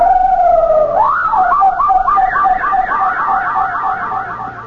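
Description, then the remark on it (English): A parrot mimics a siren: a steady, loud whistled tone that breaks into a quick wavering wail, pitch rising and falling repeatedly for several seconds, with no voices. “The parrot made that incredible sound again.”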